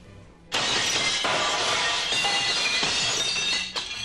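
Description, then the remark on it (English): A window's glass shatters with a sudden loud crash after a brief quiet moment, followed by several seconds of bright tinkling and clinking shards that fade slightly at the end. “Broken windows are a breeze.”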